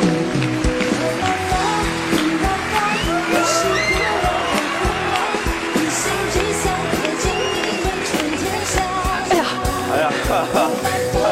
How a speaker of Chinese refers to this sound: 咱们现在就掌声有请虎妈登场，聊聊他的育儿心得，掌声有请。